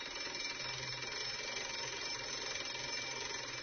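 A school bell rings without pause, a steady, buzzing metallic clatter with a high shrill edge that holds at an even level from start to finish, with no voices.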